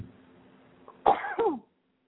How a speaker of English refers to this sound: Oh, I got to sneeze. I'm sorry.